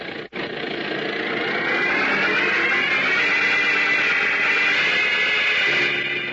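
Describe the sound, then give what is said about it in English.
The engine of an old taxi roars and rattles steadily as it drives onto a bumpy, sandy desert road, a loud continuous grinding drone with a wavering pitch after a brief cut near the start. No one speaks. “Slightly startled, Lois looks at the elderly taxi driver who chews meditatively on a straw as he steers his ancient vehicle onto a bumpy, sandy desert road.”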